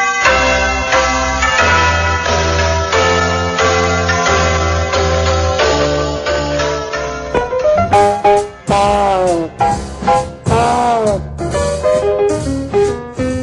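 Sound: church bells ringing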